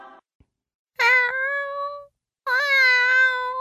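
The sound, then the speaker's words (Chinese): A kitten named Mimi, adopted from an animal shelter, meows twice, each cry high-pitched and drawn out, with a short pause between them and no one talking. “哇，好可爱的小猫咪哦！”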